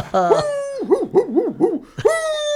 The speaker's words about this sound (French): La ribambelle de chien est toujours sur la piste du pout-pout.